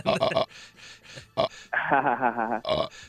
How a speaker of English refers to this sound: when he's recording his promos for Sam, will just burp into the mic, and Sam made a compilation of it.